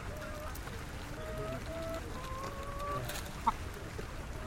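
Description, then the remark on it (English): Several chickens in cages cluck and murmur in short, overlapping calls over a steady rumble of background noise, with one sharper squawk standing out near the end. “Chickens in cages.”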